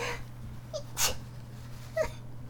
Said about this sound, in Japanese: あ、やべ、くしゃみでしょ。